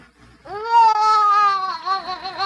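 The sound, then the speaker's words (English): A newborn baby girl, just born in a little front room, lets out a loud, sustained wail that rises quickly and holds a high, strained pitch for about two seconds, wavering slightly near the end. No one speaks. “in the little front room behind their closed door, Rachel gave birth to their daughter”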